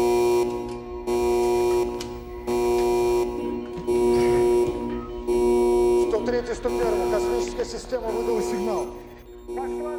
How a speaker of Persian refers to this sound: یکم بعد از نیمه شب بود که صدای آلارم تو کل ساختمون فرماندهی پیچید.